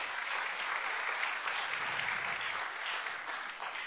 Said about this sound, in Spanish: Así es que vamos a recibirla con un cariñoso aplauso.